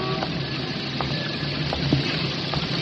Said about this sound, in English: It was raining that afternoon. The old buildings of Lower Manhattan were crying. Their tears spattered in drops off the awnings, rushed out in streams from the drain pipes and gutters of the old brownstone houses.